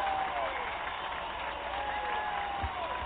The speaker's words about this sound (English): 30JK Nation cheering for all of you.